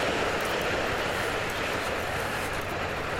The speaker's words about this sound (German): Hiho, U-Bahn. Wir haben übrigens 6 Uhr, das hört man nur nicht, weil die U-Bahn zu laut ist.